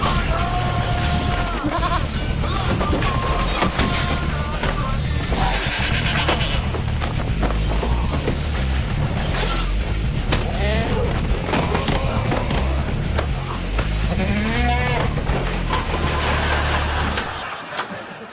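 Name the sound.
goat bleating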